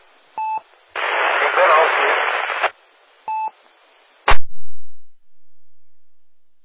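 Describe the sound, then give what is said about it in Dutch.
A noisy amateur radio transmission: two short tone beeps bracket a burst of harsh static hiss, then a sharp click and thump as the signal cuts out, leaving faint crackle. “Komt zwaar in de ruis, volgens mij klopt er iets niet.”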